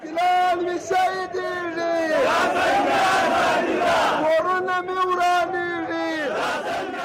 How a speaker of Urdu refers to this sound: یہ مظاہرہ پشتون تحفظ موومنٹ کے زیر اہتمام کیا گیا. مظاہرے میں وکلا اور سول سوسائٹی سے تعلق رکھنے والے افراد نے بھی شرکت کی. مظاہرے کے شرکا اس موقع پر بھرپور نعرے بازی کرتے رہے.